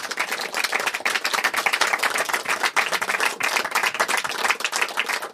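Sustained applause from a sizable audience for the female musicians, dense overlapping claps at a steady loudness filling the whole stretch, with no voices standing out.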